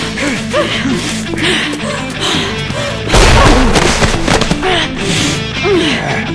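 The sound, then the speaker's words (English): A sudden loud explosive blast erupts midway as a small packet of plastique explosive, set on a 5-second timer, detonates: a deep booming crash with rumbling debris that lingers, layered over a busy bed of dramatic music and voices. “The Doomsday Warrior extracted one of the little packets of plastique from the backpack Rufus had given him, set the timer for 5 seconds, and walked through the blown open door.”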